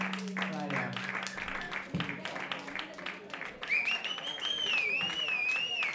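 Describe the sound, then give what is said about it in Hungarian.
A concert audience applauds after the final song, with dense, steady clapping throughout, joined in the second half by a wavering high whistle-like tone, with a low hum at the start. “Nagyon jó, a tapsot hallom.”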